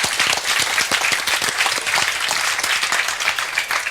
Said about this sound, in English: A massive thank you to everybody who upgraded to 047 very, very quickly. Yes, big round of applause for that.